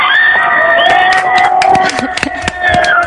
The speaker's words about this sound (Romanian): Roagă-i din partea mea să vă aplaude. Mie mi s-a părut incredibil jos. Vă rugăm să ne aplaudați, toată lumea!